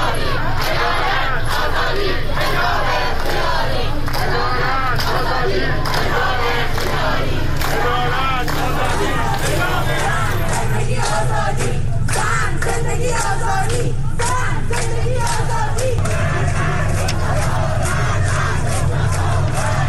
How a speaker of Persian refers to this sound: شماری از شهرهای ایران از جمله تهران عصر دوشنبه شاهد تظاهرات و تجمعات اعتراضی علیه قتل مهسا امینی در بازداشتگاه پلیس امنیت تهران بود. تظاهر کنندگان علاوه بر شعار علیه مقام‌های حکومتی و نیروهای انتظامی، خواستار رفع حجاب اجباری شدند.